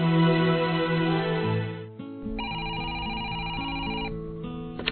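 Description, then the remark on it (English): A telephone rings in an office at TM Productions with a bright, steady electronic trill lasting a couple of seconds, following a short stretch of background music. Nobody speaks. “In his office at TM Productions, Mac receives a phone call”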